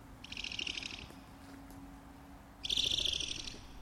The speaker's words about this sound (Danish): den laver også nogle små fine skrig. En flagermus skriger.